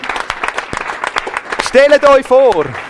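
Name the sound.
audience applauding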